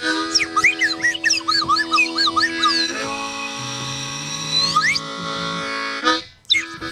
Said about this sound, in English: Slide whistle solo!